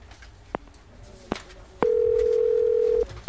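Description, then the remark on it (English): A telephone call being placed: a few short clicks or beeps, then a steady electronic ring tone that holds for about a second before cutting off, with no talking. “you can call Horace and see if there are any updates”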